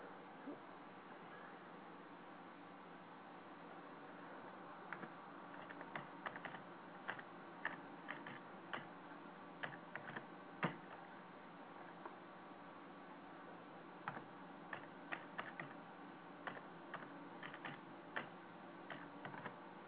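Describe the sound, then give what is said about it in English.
Keys clack on a computer keyboard in irregular bursts of quick taps, starting a few seconds in and continuing with short pauses, fairly quiet over a steady low background hum. “Yeah, I'm just typing here.”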